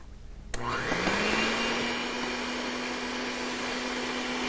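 An electric blender, used to blend a mixture made with 2 cups of almond drink in a bowl, switches on after a brief quiet moment, its motor spinning up to a loud, steady whirring hum that continues without a break. No one speaks.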